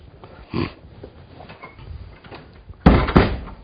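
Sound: door being closed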